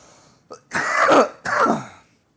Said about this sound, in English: Are you coughing too from it?